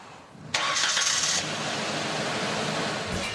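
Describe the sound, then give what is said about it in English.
An electric pickup truck switches on as the key is turned, with a bright warning bell ringing for about a second, followed by a steady, quiet background hum with no engine rumble. “So you just turn the key on. Besides the bell, you wouldn't know it was on. But the vehicle was started.”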